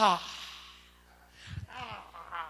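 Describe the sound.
A person fakes an exaggerated yawn, imitating yawning at the word of God: a voiced, breathy groan that swells and trails off, followed by a few short drawn-out vocal sighs.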